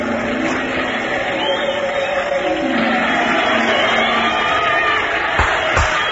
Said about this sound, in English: All cheer.